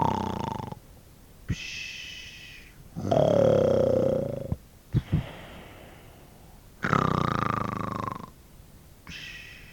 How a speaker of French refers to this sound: Le veilleur lui-même commença à dodeliner de la tête, puis à sommeiller. Bientôt, les deux hommes ronflèrent à l'unisson.